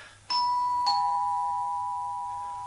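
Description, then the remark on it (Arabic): A two-tone apartment doorbell chime rings once, a bright ding followed by a lower dong that lingers and slowly fades, clear with no voices; the door bears a sign for Dr. Sherif Mokhtar, specialist in psychiatric and neurological diseases. “اضرب الجرس.”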